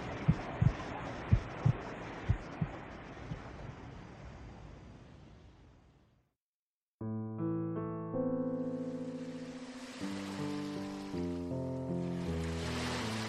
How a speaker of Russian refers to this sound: В такой страшный шторм на Средиземном море попал священник Николай.